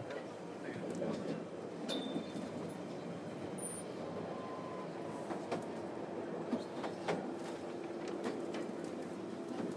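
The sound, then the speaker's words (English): A London Underground train approaching Ealing Broadway, where it terminates, runs along the rails with a steady rumble throughout, broken by occasional clicks and a couple of brief, high-pitched wheel squeals. “The next station is Ealing Broadway, where this train terminates.”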